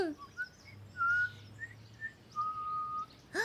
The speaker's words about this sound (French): T'as entendu, Biscuit? L'oiseau, il siffle comme grand-papa Bi. Hey, l'oiseau! Es-tu un grand-père? Quack, quack, quick! Hein? C'est quoi cet oiseau-là? Quack, quack, quick! T'es un drôle d'oiseau! J'ai jamais entendu un oiseau chanter comme ça!